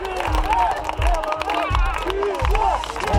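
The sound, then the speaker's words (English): A crowd at a protest rally in Belarus stands on the sidewalk clapping in slow, steady unison, the thumps landing about every half second over a constant murmur of voices and some shouting. “They're standing on sidewalks, clapping.”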